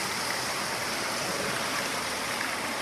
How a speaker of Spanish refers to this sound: Aquí volvemos a Jardín Pulotra. Fuente y cacharro de agua.